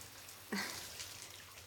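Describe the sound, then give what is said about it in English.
A short splash of warm water, followed by a second or so of soft sloshing and dripping as someone gets into a warm bath. No voices. “Here, get in the warm water.”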